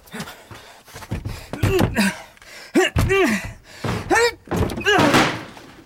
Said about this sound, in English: Break the door down. Come, help here. Quick, quick, quick, quick. The door, break it open.